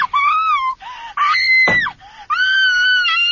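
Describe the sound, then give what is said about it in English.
A girl screams loudly after a gun cracks, several long, shrill, sustained shrieks in quick succession, broken briefly by a sharp noisy burst partway through, with no talking. “A gun cracks. The girl screams.”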